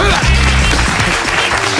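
A loud burst of applause from a group, dense continuous clapping that fills the short moment from start to finish, with some low background sound beneath it.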